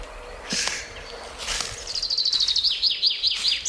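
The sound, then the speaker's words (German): A chaffinch sings a bright, high trill of quick, evenly spaced descending notes, preceded by a couple of brief, scratchy calls against a faint background hiss. “Also wir hören jetzt die Buchfinken, wir hören den Baumtöter.”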